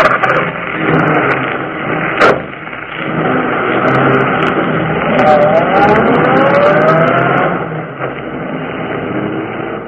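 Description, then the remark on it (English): A car engine rumbles and revs steadily as the vehicle drives off, carrying two young criminals fleeing the scene, with a rising whine around the middle and a couple of sharp clunks early on; no one speaks. “The two young criminals fled the scene in the murdered man's automobile.”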